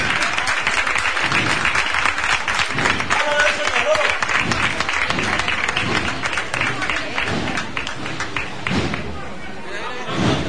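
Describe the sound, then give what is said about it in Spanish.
A crowd gathered for Palm Sunday applauds the first float (paso) of the Borriquita brotherhood as it comes out, with steady, dense clapping that holds at full strength, easing slightly toward the end, with scattered shouts and voices mixed into the ovation. “El aplauso ahora, merecidísimo, de todas las personas que se han congregado para vivir esta jornada importantísima de Domingo de Ramos”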